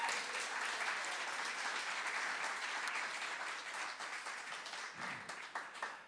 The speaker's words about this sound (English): And why don't they all just stand up? Because not everyone knows who you are, so they just want to give you a round of applause for becoming uncles, aunts, and...